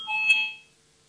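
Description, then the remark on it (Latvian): A voting bell sounds once in a parliament chamber, rung to call a vote on a legal bureau proposal: a single bright, electronic-sounding tone that rings steadily for about half a second, then fades out quickly. Nobody speaks. “Lūdzu, zvanu, balsosim par 12. juridiskā biroja priekšlikumu.”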